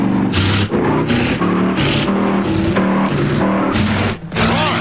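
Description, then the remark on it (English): A loud car engine roars and revs as the car takes off in a race, its pitch climbing and dropping in surges as it accelerates, with a scraping, skidding edge and no talking. “Roaring to the engine!”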